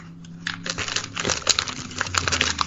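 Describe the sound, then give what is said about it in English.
A large sheet of paper with writing on it crinkles and crackles as it's unfolded, fairly loud, with a continuous run of sharp rustling bursts lasting a few seconds and no talking. “My God, it's a giant piece of paper, Nick, with writing on it.”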